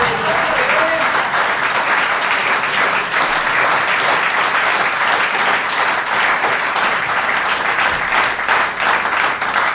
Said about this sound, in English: Was or that slow hand clap? Was that slow hand clap?